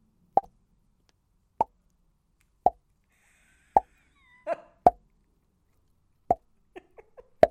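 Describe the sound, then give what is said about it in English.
Slow, sparse Wimbledon-style clapping: single sharp hand claps spaced roughly a second apart, about ten in all, with a few quicker ones at the end, and no voices. “Oh, was that you have to do Wimbledon clapping, which is just. Oh, that's good. It's a little ripple of a patter.”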